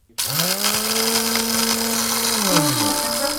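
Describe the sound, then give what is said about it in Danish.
A blender, switched on by pressing its button, starts abruptly and runs loud and steady with a high motor whine, its pitch dipping slightly near the end as the load shifts. No voices. “vi skal trykke på knappen der til trylleboksen, til blenderen.”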